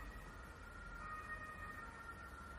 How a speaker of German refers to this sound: Mensch, hörst du die Sirenen? Das ist ja Wahnsinn. Das hört ja gar nicht auf.